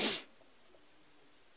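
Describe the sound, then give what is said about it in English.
A single short, sharp sneeze bursts out at the start, loud, then fades into faint background noise with no talking. “Bless you, Master.”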